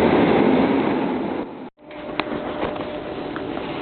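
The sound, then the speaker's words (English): Steady low rumble inside a moving city train in Berlin, broad and continuous, with a brief dropout near the middle and faint clicks and rattles afterward; no one speaks. “Sitting on the train, there's a Berliner Fenster, which is a mixture of advertising and public information about the city.”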